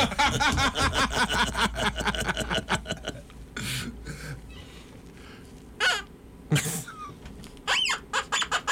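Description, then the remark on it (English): A squeaky toy being chomped by a dog: a fast, rhythmic run of shrill squeaks for about three seconds, then a few louder, scattered squeaks separated by short pauses. “Our show is probably out in homes that have dogs, and they're all hearing the squeak and going nuts.”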